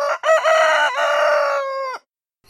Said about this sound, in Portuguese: Acordem, acordem! Cantou o galo, voando por cima das galinhas que estavam meio adormecidas.